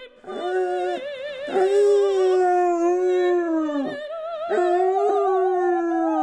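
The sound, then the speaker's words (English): Basset hounds howl loudly along to opera in long, wavering, sung-out tones, several voices overlapping and breaking off briefly before rising again, with no talking. “what if I take my pooches to La Boheme and they love it so much they sing along?”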